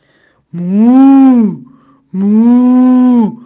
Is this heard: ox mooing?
yes